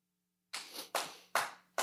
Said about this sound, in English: And how, thank you. That's a booming clap you got there, brother.